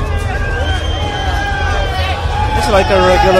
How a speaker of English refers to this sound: It's getting noisy. Walking through the crowd of drunk people.